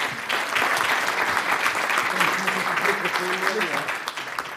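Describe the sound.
An audience claps steadily and loudly for several seconds, a dense, continuous patter of many hands, with a faint voice or cheer rising under it midway.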